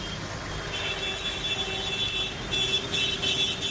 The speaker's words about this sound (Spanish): Los tractores arrancan a esta hora sus motores. Vienen de distintos puntos de la provincia a la capital.